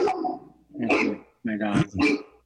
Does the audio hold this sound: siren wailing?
no